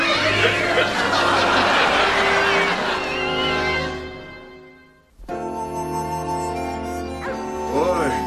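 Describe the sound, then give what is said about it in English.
A crowd of cats meows and yowls all at once, overlapping cries filling the space loudly and nearly nonstop, with a brief lull before the clamor swells again. “I don't want all these cats.”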